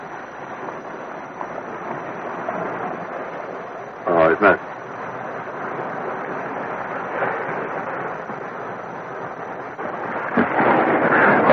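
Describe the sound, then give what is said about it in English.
Slow rolling waves of the Bering Sea in Alaska make a continuous, steady wash of surf noise that swells gently, with a couple of brief louder bumps and a fuller surge near the end. “Sound of the slow rolling waves. It's a very odd looking body of water. The slow rolling waves of the Bering Sea.”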